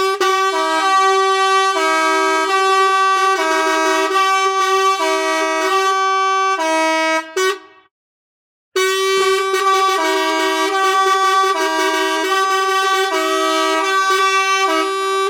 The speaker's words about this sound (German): Halb Flamingo, halb Tröte. Eine Flamöte. Und da beginnen sie plötzlich ganz wild durcheinander zu tuten und zu hupen.